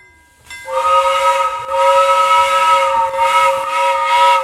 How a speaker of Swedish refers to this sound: Bara för att visualisera tåget, eller audalisera, ja.